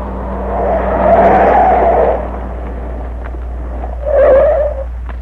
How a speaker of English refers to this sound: There's the truck. Just pulling away from that house.